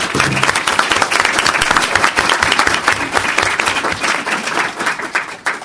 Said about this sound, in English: So a big round of applause to everyone who helped put this together.